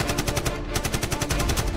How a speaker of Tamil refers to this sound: அடுத்த சில நிமிடங்களில் அந்த வாகனம் மீது சரமரியாக குண்டு மழை பொழிகிறது.